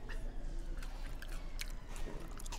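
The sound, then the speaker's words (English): Wet chewing of potato salad right into a microphone, with soft squishy smacks and clicks repeating steadily for a couple of seconds over a low rumble. “I put it in front of his face to say something funny, and he just chewed potato salad.”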